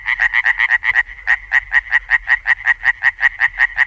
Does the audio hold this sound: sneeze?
no